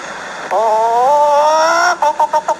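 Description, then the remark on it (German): A person's voice imitates a hen cackling while acting out laying an egg at the end of a production: one drawn-out, rising squawk followed by a quick run of about five short, clipped clucks, fairly loud. “sonst kann ich nicht gackern”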